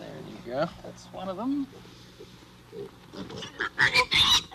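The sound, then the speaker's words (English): Pigs on a farm squeal and grunt in a series of loud, high-pitched bursts as they are loaded into a crate, the shrieks growing sharper and more frantic toward the end, with a person's voice faintly underneath. “Squealy pigs. Squealy pigs.”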